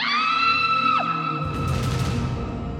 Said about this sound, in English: Rama and Lakshmana looked up at the sound of a scream.